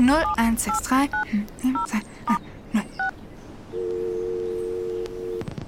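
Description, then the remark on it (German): A rapid series of about ten short, two-toned keypad beeps as a phone number is dialed, followed by a steady ringback tone and a faint click at the end. “Moment, ich rufe Hannah an. Wo ist das Telefon?”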